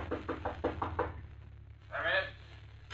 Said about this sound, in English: Finally, he finds room 314, the number Batman had given him at the end of the hall. He stops and knocks on the door.